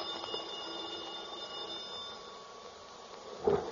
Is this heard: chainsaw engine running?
no